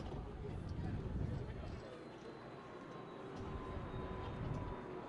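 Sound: airplane flying overhead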